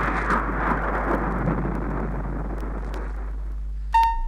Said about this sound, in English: The boys opened their mouths to speak, but no words came out. Instead, out of their mouths came the roar of thunder.